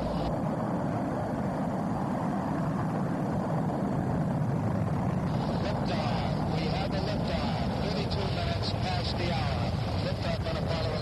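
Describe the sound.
The Apollo 11 rocket launch on July 16, 1969, carrying three American astronauts, roars in a loud, unbroken wall of rumbling noise that holds steady for the whole stretch, with a voice faintly speaking beneath it.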